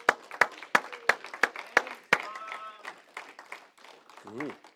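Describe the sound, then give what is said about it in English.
A burst of steady, evenly spaced clapping for the mothers on Mother's Day rings out for about two seconds, then fades into a murmur of voices and scattered chatter from the crowd. “Can you guys give them applause?”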